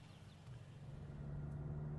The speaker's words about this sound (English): Well, let's get in the car and we'll talk about it as we drive along.